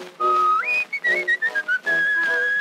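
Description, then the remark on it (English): A person whistles a short melodic tune, clear, with sustained notes stepping up and down in a lively rhythm, no talking over it. “He got into a church and whistling did begin.”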